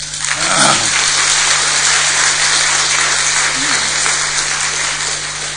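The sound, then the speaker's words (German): An audience claps steadily for several seconds to welcome a speaker called to the front, a dense, even patter of many hands at constant loudness, with a faint voice briefly audible beneath it. “So, wir begrüßen ihn, ich denke auch gerne mit Beifall.”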